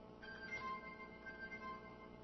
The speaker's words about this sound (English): Forgot to mute the cell phone, I guess.